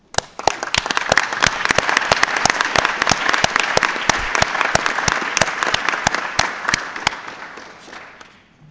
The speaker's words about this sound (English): And please, I think this also merits an applause.